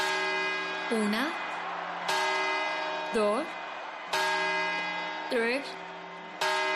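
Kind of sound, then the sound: sound effect, clock tower bell chimes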